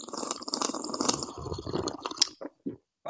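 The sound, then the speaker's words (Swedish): A loud, wet slurping sip of hot Skånerost coffee taken at a microphone, lasting a couple of seconds, with liquid gurgles and squishy mouth sounds, ending in a few short clicks and a swallow. “Och nu kommer en extra ASMR-sipp för er som älskar och hatar.”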